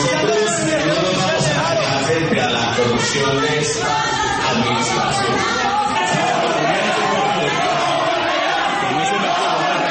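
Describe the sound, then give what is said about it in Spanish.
The public in a council chamber boos and jeers loudly and steadily as opposition councillor Alfredo Ramos speaks to criticize Quintero, many overlapping voices forming a dense, continuous roar with shouts rising out of it throughout. “El ambiente en el recinto se puso tenso porque cuando intervino el concejal opositor Alfredo Ramos para criticar a Quintero, empezaron los abucheos del público.”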